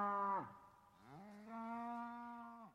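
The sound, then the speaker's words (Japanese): A herd of cattle, 500 head brought by Yoshinaka's retainers, moo in a short series of calls: a brief low moo, then a longer drawn-out bellow rising and holding steady before trailing off, clear, with no talking. “義仲の家来たちが牛を連れてきました。 もうもうもう、 たくさんの牛です。”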